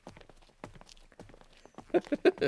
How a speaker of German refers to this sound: Beschwingte Schritte führen aus dem Hörspiel.